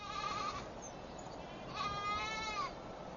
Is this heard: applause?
no